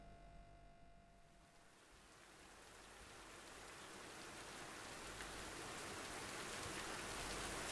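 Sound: rain falling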